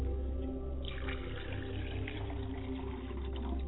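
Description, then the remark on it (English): Libation liquid being poured to the west during a prayer, in a steady, continuous trickling stream for a few seconds, fairly quiet over a low background hum, with no one speaking. “Libation is being poured to the west, and I say, Ashe.”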